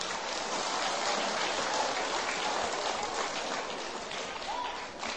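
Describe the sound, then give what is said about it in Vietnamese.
A large audience of young people at a Buddhist youth gathering claps steadily in a dense, sustained burst of applause, filling the whole moment at even loudness before easing very slightly at the end; no one speaks over it. “Nếu việc làm này là dễ dàng thực hiện được thì các cháu hãy dành một tràng vỗ tay thật lớn.”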